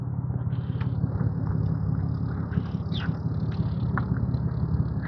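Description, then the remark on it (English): A truck engine idles with a steady, low rumble that never rises or fades, forming a continuous background drone with a few faint higher chirps above it. “I guess it's that truck down there running.”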